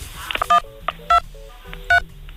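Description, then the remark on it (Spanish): Telephone keypad tones dialing star, 1, 2, 3, 4 to test a phone line: a short series of bright two-pitched beeps pressed at uneven intervals, some louder with fainter ones between, and no one talking. “A ver, márqueme asterisco, por favor, 1, 2, 3, 4.”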